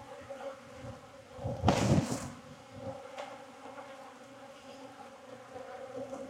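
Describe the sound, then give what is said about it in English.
A steady, droning hum of many honeybees buzzing around an open hive, with a brief louder rustling burst partway through before the even buzz carries on. “A couple bees scratches stinging me underneath my watch.”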